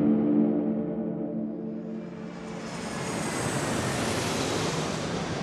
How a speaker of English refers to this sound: It's February 26th, 2002. Wilson's plane makes its final approach over Niamey. Wilson looks out the airplane window, gazing across the country's capital.